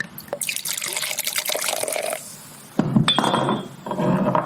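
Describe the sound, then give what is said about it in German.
Wine glasses of pét-nat wine clink together in a toast, a bright ringing chime standing out amid sloshing, splashing liquid sounds, with no voices. “Aber manchmal lohnt sich eben auch der Blick hinter das Etikett. Prost.”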